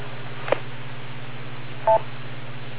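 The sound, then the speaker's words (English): A single short landline keypad tone beeps once after a faint click, over a steady low electrical hum, with no one speaking. “Yeah, I'm on the landline with the boss, so the phone is getting a little ridiculous this morning.”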